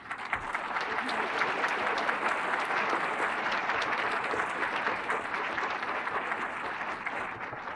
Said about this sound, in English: While I have downgraded these gentlemen here for a moment, I see they're clapping, and so that I'm also expressing their feelings.